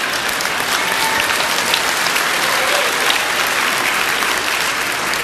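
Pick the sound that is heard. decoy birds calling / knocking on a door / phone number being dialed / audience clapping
audience clapping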